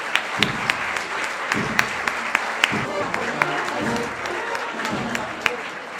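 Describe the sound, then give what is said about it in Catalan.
An audience applauds the presentation of the 2023 Christian Ambassador of the Contrabando filà, with many sharp claps running together in a steady, lively patter for several seconds. Low crowd rumble and occasional thumps sit beneath the clapping. “Un fort aplaudiment.”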